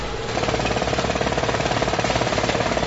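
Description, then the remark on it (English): A tractor pulling a hay mower, cutting rows of tall green oat hay in a field on the Wavecrest property: a loud, steady engine drone layered with a rapid, even mechanical clatter that swells in shortly after the start and holds throughout, with no voices. “This tractor is pulling a hay mower, cutting rows and rows of tall green oat hay.”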